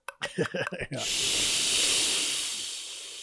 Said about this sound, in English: maybe you put a cola being poured and fizzed.